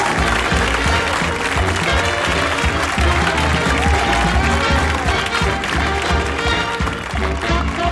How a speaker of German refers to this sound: Applaus!